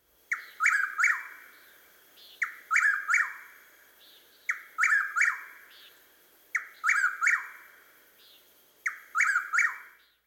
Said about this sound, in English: Note how the whippoorwill repeats his phrases more quickly than the chuckwill's widow. First, whippoorwill. Next, chuckwill's widow.